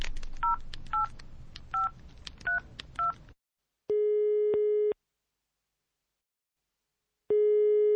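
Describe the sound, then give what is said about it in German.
A mobile phone number is keyed in with six quick dual-tone beeps over faint room noise. A steady electronic busy tone then sounds in long, loud pulses separated by a stretch of silence, and the called person does not answer. “Wieso geht er denn jetzt nicht an sein Handy?”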